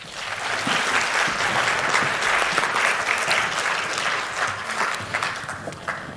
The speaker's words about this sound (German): Und ich würde sagen, für unsere freiwillige Person einen zärtlichen Applaus.